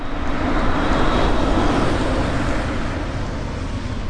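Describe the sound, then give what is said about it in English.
An electric car drives by, a steady broad rush of tyre and road noise with a low rumble, holding fairly loud and even throughout, with no voices. “What if the majority of cars sounded like this?”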